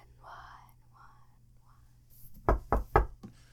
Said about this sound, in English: Hello, sir. Why are you knocking on my tabletop? Just wanted to get your attention.